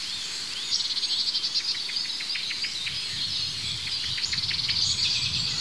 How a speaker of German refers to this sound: Ja, da hört diese Aufregung der Amsel. Das Huit Huit hat aufgehört. Ja, da ist es wieder.